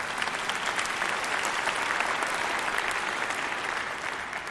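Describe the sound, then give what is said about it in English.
An audience breaks into sustained applause, dense overlapping claps holding at a steady, fairly loud level for the full stretch with no voices rising above it. “So what he says, yes, you can go ahead and clap.”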